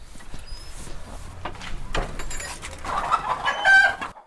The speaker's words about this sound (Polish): I jest tutaj tak 120 kur. I niosą codziennie około 100 jajek. Jest kogut.